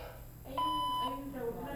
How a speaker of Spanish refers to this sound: Por favor, deja tu mensaje después del tono.